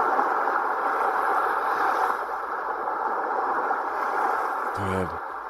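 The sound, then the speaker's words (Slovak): Steady, rushing roar of sea waves washing continuously at moderate loudness, with no clear breaks between surges, and a brief gliding tonal sound near the end. “Niečo tak neznie úplne, ale tak čo to môže byť? More? Správne, more.”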